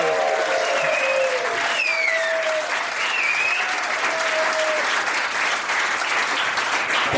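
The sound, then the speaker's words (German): A lively nightclub audience in Angie's Nachtclub on the Reeperbahn claps and cheers loudly and steadily for about seven seconds, with high whoops and whistles rising above the dense applause. “Und damit wir auch hören, dass hier ein lebendiges Publikum am Start ist, machen die jetzt mal richtig Lärm.”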